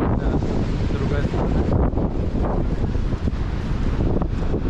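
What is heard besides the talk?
strong wind blowing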